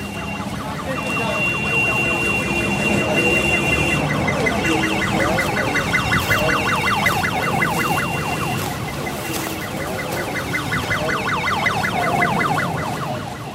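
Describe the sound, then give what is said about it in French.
A rapid, warbling ambulance siren wails continuously amid a busy, noisy street background, loud, its oscillating pitch repeating for the whole stretch, as ambulances, one a basic van, stand by at a fire. “Voilà, les ambulances qui sont là, à moitié vides, mais t'as vu, ça aussi, c'est encore des ambulances du tiers-monde, quoi.”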